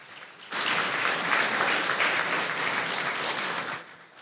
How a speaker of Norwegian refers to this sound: Liten applaus for det, eller?